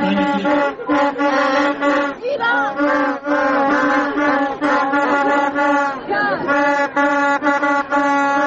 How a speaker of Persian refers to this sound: یک سری صداهایی هم داریم از داخل استادیوم و از وقتی که خانوم ها دارن وارد استادیوم میشن، بشنویم این صداها رو.